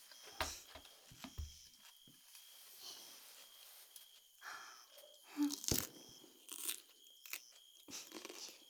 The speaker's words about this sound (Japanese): 一口目は豪快に。 CM みたい。 パキッとゴクゴクってたまらんですな。 なんか食事の音ってお腹空きますよね。